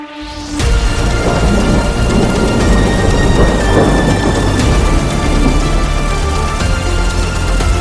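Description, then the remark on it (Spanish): A loud thunderstorm at night, with a deep continuous rumble of thunder over steady heavy rain that starts abruptly and holds at full strength throughout, no voices present. “Un estruendoso trueno que lo ensordece todo.”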